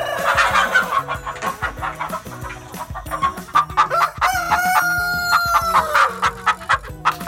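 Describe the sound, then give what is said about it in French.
Chickens (hens) cluck in quick, busy bursts, and partway through a rooster lets out a long, loud crow that rises and holds before the clucking carries on. “Eh oui, l'animal qu'il fallait deviner, c'est la poule.”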